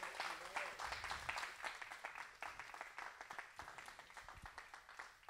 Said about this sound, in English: Can we clap our hands to the Lord in this house?